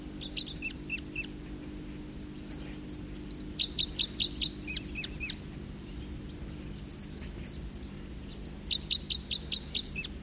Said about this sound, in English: Other birds coming in now, song flight of a second bird.